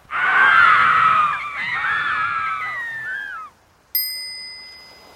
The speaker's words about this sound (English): The dolphins and the whales scream.